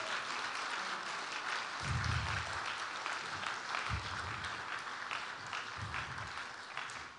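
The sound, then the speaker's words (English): A crowd applauds steadily for about seven seconds, welcoming a man called up to the front, a dense wash of clapping that stays loud throughout, with a few low thumps and murmurs beneath it. “Come on, give him a hand.”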